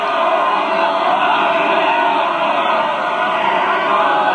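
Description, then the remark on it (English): A dense mass of many voices yelling and roaring together in a sustained, unbroken wall of sound as fascist soldiers, a whole battalion on horseback, charge over a hill shouting battle cries, loud and continuous throughout. “Suddenly, the fascists are coming over the top. Oh, they're streaming over the hill.”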